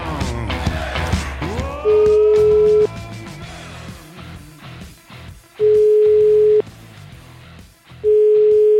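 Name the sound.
telephone ringing tone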